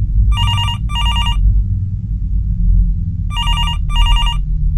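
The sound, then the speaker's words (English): A telephone rings in two double bursts of warbling electronic trills, separated by a pause, over a steady low rumbling background hum. “What's that? My phone.”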